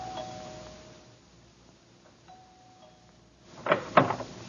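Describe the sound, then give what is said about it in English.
A house doorbell chimes with soft, sustained tones, pauses, and rings again; then a louder rattle and clunk as the house door is opened. “But there was only one doorbell, so I knew just what to do.”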